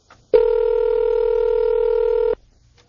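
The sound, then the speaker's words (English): A telephone ringing as heard down the line: one steady electronic ring tone holding for about two seconds, clear and fairly loud, then cutting off into quiet. No one speaks. “Is it four rings until you get the...”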